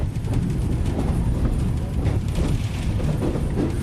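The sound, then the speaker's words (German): A commuter train on the line from central Buenos Aires to Liniers, Argentina, rolls steadily along the tracks, a deep continuous rumble with faint rhythmic clacks and rattling of the carriages, no voices present. “Mit dem Zug fährt man vom Zentrum aus eine halbe Stunde nach Liniers, einem ganz besonderen Viertel von Buenos Aires.”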